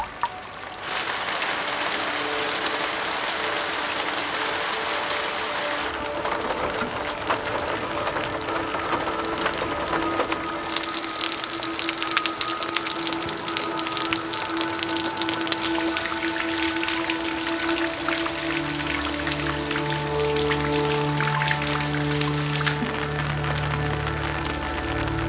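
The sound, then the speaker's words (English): Steady rain falls outdoors, a dense continuous patter that fills the whole space, with a brighter, heavier stretch in the middle and a low hum creeping in toward the end. “If only there could be something equivalent to rain falling inside.”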